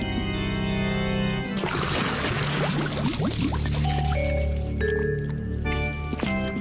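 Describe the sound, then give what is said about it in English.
Water pours out in a sudden gushing, splashing rush, meant to smush a supposed monster, that starts abruptly and keeps sloshing for several seconds over steady background music. “Remember when the water smushed Phil's Reptar cookie? Well, if it worked on a monster cookie, it could work on a real monster.”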